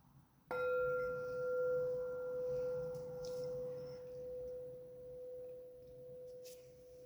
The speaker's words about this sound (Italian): Ora, se sei pronto, possiamo cominciare. La meditazione comincerà e terminerà con il suono di una campana.